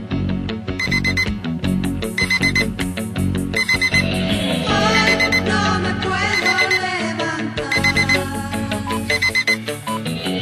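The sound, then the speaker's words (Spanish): A loud electronic alarm rings continuously for about ten seconds on a radio programme at 12:30, merged with the hourly time signal and marking the return to listener messages. Its repeating bright tones pulse in a steady rhythm over a full, dense backing, with no one speaking. “Suena la alarma, eso significa, venga, bueno, activo Facebook y Twitter.”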